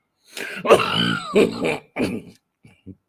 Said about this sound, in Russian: Я прошу прощения за кашель.